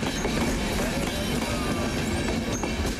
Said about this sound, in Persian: در حالی که بیش از 1200 مهاجر سوار یک قطار آهن است، یک قطار دیگر به سرحد کروشیا با هنگری مواصلت کرده تا این محموله انسانی دست پاچه شده را تخلیه نماید.